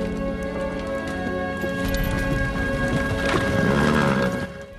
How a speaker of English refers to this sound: A hearse pulled by two black-plumed horses rattles across a bleak landscape. Snow drifts down.